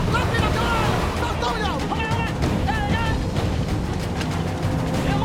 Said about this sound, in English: The grey patrol boat flies the Burmese flag. The captain signals to his helmsman, who fires up the engine.